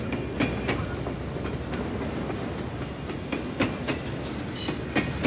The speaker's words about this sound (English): So Rosemary Dean rode the train onto Franklin.